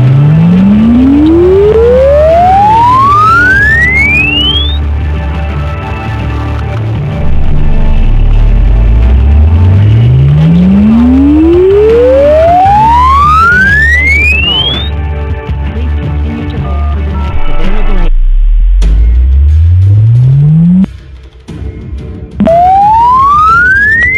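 An exponential sine-wave test sweep: a loud pure tone glides steadily upward from a deep rumble to a high whistle, repeating several times with brief silent gaps near the end. No talking.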